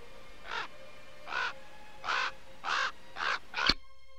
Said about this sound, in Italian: Sopra le muse incendiate irradiate dal sole del Teatro San Carlo, uno stormo di uccelli neri si dispone a cerchio nel cielo.